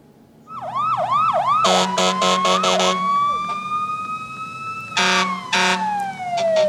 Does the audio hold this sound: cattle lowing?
no